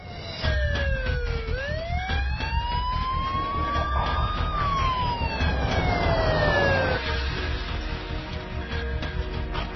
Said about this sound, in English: Put the lights on, sirens, honk the horns, make people get out of our way.